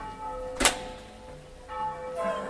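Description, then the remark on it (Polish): Church bells ring in Gorzów with a sustained, shimmering hum of overlapping tones, marked by a sharp clang early on and fresh swells of ringing toward the end, with no voices present. “Pojechałam do Gorzowa, a tam biły dzwony.”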